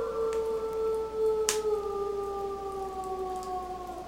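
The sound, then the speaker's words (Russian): Wolves howl far away, high in the mountains, in a long, unbroken chorus of layered tones that sink slowly in pitch, sounding distant over a hiss of background noise, with one brief click partway through. “«Что это за зверь? Похоже на лось собак». «Это волки.”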